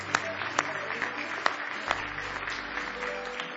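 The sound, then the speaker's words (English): An audience claps together in praise of the Lord, a dense, sustained wash of applause from many hands with a few sharper individual claps standing out, lasting several seconds. “Now give him one more hand clap of praise if you love him.”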